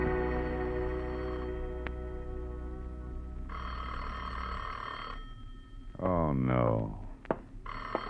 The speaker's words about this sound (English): There are some times when the phone just never should have been invented.